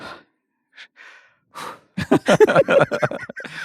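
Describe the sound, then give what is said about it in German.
A man breathes out for the first time after holding his breath: a few short, breathy puffs of air, then a loud, forceful exhale, followed by a quick run of voiced, gasping breaths. There are no spoken words. “Jetzt atmet er zum ersten Mal aus, nachdem er vor der Intro die Luft angehalten hat.”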